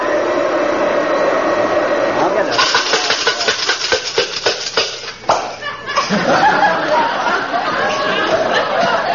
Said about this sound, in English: What was that? I ran the vacuum over my key ring. Must have fell on the floor while I was sitting on the sofa.